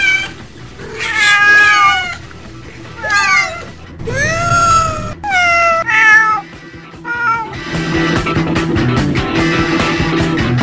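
Several cats meow loudly, a run of six or so rising-and-falling cries with overlapping voices, followed by a denser, rougher stretch of yowling and chatter.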